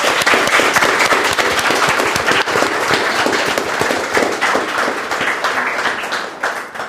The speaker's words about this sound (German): Und zwar ist das …, Rapperin und auch Radiomoderatorin. Und für die gibt's erstmal großen Applaus.